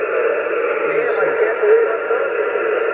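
Steady, band-limited radio hiss fills the whole stretch, with a faint signal barely breaking through underneath, a few brief tonal traces rising and fading within the noise.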